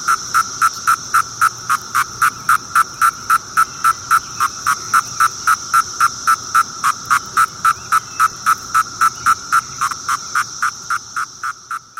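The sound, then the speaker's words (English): A male cicada's courtship call: a steady train of sharp, buzzy pulses, about three or four per second, loud, continuing without pause before tapering slightly at the end. “A courtship call.”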